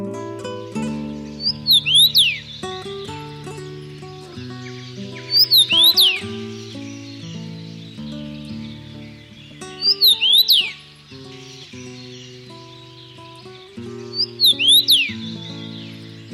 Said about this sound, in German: Das war der Kamingimpel.